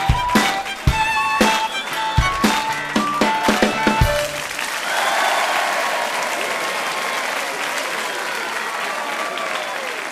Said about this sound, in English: Together, the band sounds fantastic. Everybody loves the music. Everybody claps and cheers. Hooray! Hooray!